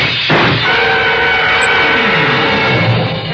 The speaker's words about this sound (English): Whoever threw those shots through the frosted glass of my office door wasn't interested in checking up on his marksmanship.